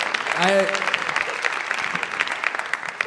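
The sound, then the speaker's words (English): An audience claps steadily, a dense wash of many hands that holds an even level throughout, with a brief voiced sound rising above it near the start. “It's okay to applaud, because I wove that.”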